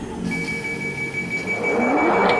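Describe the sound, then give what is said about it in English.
A vacuum machine starts up at the push of a button and brings up a tube: a steady high whine over a low mechanical rumble, with a rushing whoosh that swells louder in the second half. No one speaks. “Oh, starts up the vacuum. It brings up the tube.”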